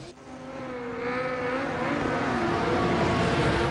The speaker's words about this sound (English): The cars race neck and neck. The speedometer breaches 100. A beefy, ringed hand shifts the gear stick.